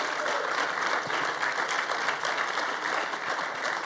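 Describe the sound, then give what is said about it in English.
An audience welcoming first-time visitors breaks into steady, sustained applause, many hands clapping in a dense, even wash of sound that holds at a fairly constant level throughout, with no voices standing out. “So go ahead and clap for you guys.”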